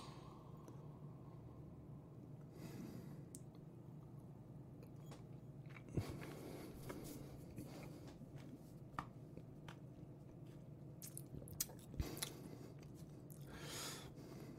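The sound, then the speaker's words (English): Quiet mouth sounds of someone taking a third sip of whiskey and tasting it: soft slurps, wet lip smacks and tongue clicks, with a couple of sharper clicks, and no talking. “So we'll go on sip number three.”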